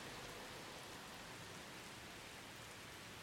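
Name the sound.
rain falling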